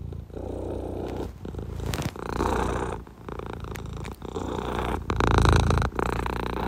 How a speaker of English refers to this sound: Hey, yo! That purring is mad dope! Yo, that shit is mad ill!